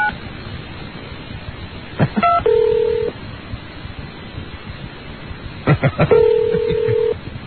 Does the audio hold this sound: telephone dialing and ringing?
yes